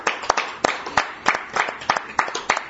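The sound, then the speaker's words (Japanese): A group applauds with brisk, sharp claps that overlap into a steady, moderately loud patter, with no voices over it, celebrating a teacher's 81st birthday. “盛大な拍手でお祝いをさせます”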